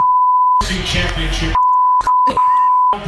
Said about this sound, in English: How are you feeling right now? No, you don't want me to say that. No, I'm going to beep everything. Oh, you're going to beep it.